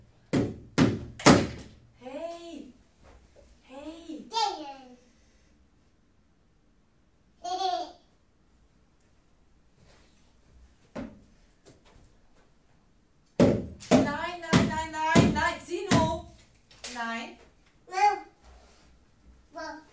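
A child knocks on the floor in short bursts of dull thumps, a quick cluster at the start and a longer flurry near the end, with a small child's babbling and vocal sounds in between.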